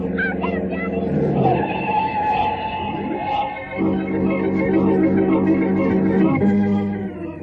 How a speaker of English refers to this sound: look at that car coming. You can't even see the lights.